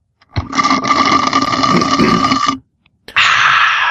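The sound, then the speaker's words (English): A loud, drawn-out slurp of a drink lasting about two seconds, gurgling and raspy, followed after a brief pause by a second harsh slurp that continues to the end. “On that slurp, that is it for this episode.”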